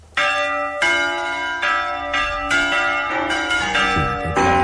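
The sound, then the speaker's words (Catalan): Church bells ring the festive peal (toc de festa) for a festa major, several bells struck in quick succession with bright, overlapping metallic tones that keep sounding throughout, with no voices. “El toc de festa, que fins ara només hem fet males notícies, sembla que el pobre campaner només porti males estrogances,”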